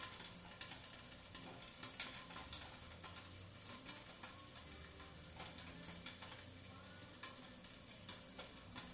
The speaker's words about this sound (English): top of this, but there's that annoying sizzling sound that's getting in the way.